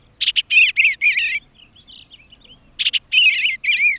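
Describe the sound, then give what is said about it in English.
An eastern bluebird sings two mellow, burbling phrases of warbled notes from the edge of a meadow, separated by a brief pause, clear with no talking. “A mellow, burbled refrain from the edge of a meadow.”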